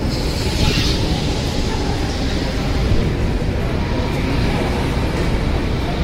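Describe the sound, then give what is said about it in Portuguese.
A São Paulo metro train rumbles steadily as it arrives at a station, a dense low roar with a faint high hiss and a brief brighter screech near the start, continuous without pause. “O trem está chegando, encontro com vocês logo menos.”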